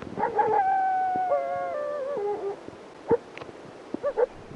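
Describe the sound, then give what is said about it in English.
An Arctic wolf in the Alaskan wilderness gives a wavering, drawn-out howl that steps down in pitch, followed by a few short, sharp barks and yips, clear against a quiet outdoor background. “That's an Arctic wolf barking.”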